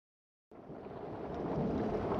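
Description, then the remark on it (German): After a brief silence, a low, rolling rumble of thunder swells in over a steady hiss of rain, growing louder and fuller with no voices present. “Es bilden sich Wolken, Regen und Gewitter.”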